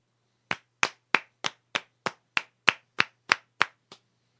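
A single person claps about a dozen times in a steady, even rhythm after a poem is read, each clap sharp and crisp, with the last one a little softer. No one speaks.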